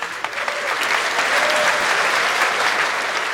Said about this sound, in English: In 2024, I announced the Tildagon. A round of applause, everyone was very excited.